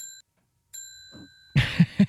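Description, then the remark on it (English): A victory bell rings twice, a brief clear tone and then a longer sustained ring that slowly fades, followed by a few loud, muffled thumps. “That's my victory bell.”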